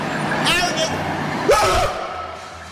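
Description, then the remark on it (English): A school bus's engine rumbles low and steady as it drives past, its drone running beneath a couple of short, loud vocal outbursts from people in the scene. “But I hear the sound of a van coming.”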